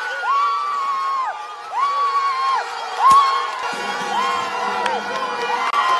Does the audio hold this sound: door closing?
no